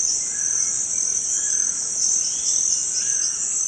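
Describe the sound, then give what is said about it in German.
Steady tropical rainforest ambience in the Amazon jungle behind a small village on the Rio Negro, about an hour from Manaus: a dense, high insect drone fills the air continuously, with faint screeching parrot calls drifting in now and then. No one speaks. “Bunte Papageien kreischen in der Luft, Amazonien pur.”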